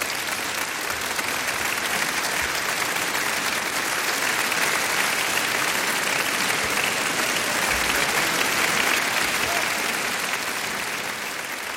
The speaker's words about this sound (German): Ein langer Moment der Stille. Und erst dann der verdiente Applaus für die Aufführung des Oratoriums Avoaha von Maurice Ohana.